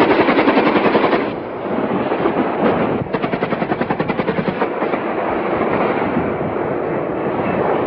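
Rapid bursts of heavy automatic gunfire from Israeli helicopter gunships attacking targets in the refugee camp in the city of Jenin. The gunfire crackles in fast, rhythmic volleys over a constant loud rumbling drone, with a short lull before another sustained burst.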